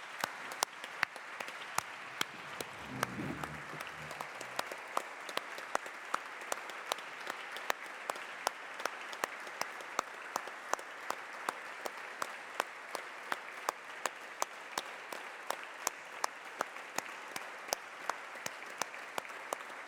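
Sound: applause in parliament chamber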